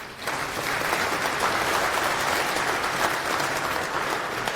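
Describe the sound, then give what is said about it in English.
An audience applauds steadily at a tech talk on CEL, the Common Expression Language in Rust, a dense wash of many hands clapping at an even, fairly loud level from start to finish, with no voices. “Now I can compare to clapping at the end and see how well I did.”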